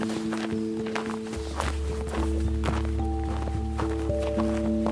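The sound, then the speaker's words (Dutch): Steady footsteps crunch across a snowy landscape in sunshine at an even walking pace, moderately loud, over a constant low hum with faint tonal lines in the background. “Over het sneeuwlandschap lopen we nu ergens heen.”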